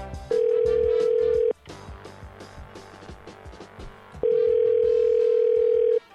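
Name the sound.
telephone call being placed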